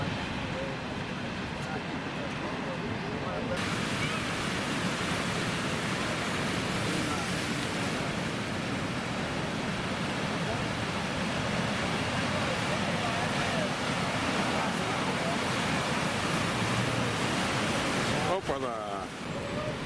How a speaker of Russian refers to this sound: Видите, какая-то волна все-таки небольшая есть. Хотя, знаете, океан такое дело. Смотришь, небольшая, потом как накатит.